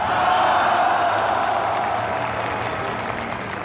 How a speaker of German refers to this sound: Die Kölner Bürger vor dem Rathaus wollten Präsident Kennedy gar nicht weiterfahren lassen. Immer wieder jubelten sie ihm zu und riefen tausendstimmig seinen Namen.